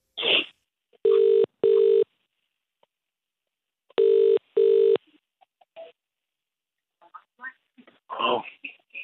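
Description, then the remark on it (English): A phone call to a man's number: the line's ringback tone sounds two double rings, steady and clear, with silence between them; faint rustling and a brief voice follow at the end. “Are you ready to ring him?”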